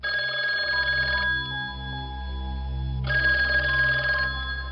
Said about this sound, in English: The phone rings.